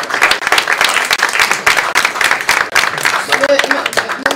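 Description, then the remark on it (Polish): An audience at the opening of a conference applauds steadily, dense overlapping claps forming a loud, continuous crackle that holds for several seconds, with a brief murmur of voices near the end. “Tak, i mamy nadzieję, że te brawa też będą na końcu, nie tylko na początku konferencji.”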